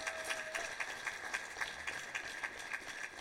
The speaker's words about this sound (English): I want to say thank you. I want to say thank you. Can we give a round of applause to our worship team?